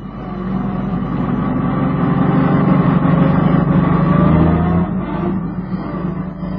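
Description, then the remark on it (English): The engine of an old jalopy runs steadily, a loud, rough low rumble with a faint rise in revs before it drops back slightly near the end. No one speaks. “Let's go and look at what he's done to that poor old jalopy of his this time, shall we?”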